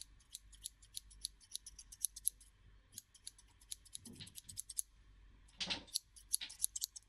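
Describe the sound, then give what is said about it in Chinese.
Crisp scissors snip through hair during a haircut in quick, steady bursts of sharp metallic clicks, with a couple of brief rustling pauses and no voices. “你老实一点，信不信一剪刀下去你耳朵都没了。”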